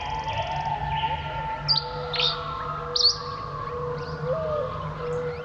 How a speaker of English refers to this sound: One final call before heading off to sleep, giving the day over to the song of birds.